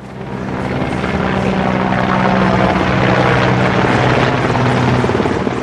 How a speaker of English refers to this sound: Members of the popular movement demanding the resignation of Oaxaca's Governor Ulises Ruiz declared a maximum alert after military helicopters and a reconnaissance airplane began flying over Oaxaca City on Saturday afternoon.